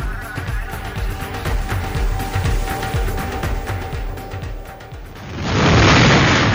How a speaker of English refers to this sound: The sound of wind and heavy rain behind us from Hurricane Irma in St. Martin. Caribbean island devastated by the storm.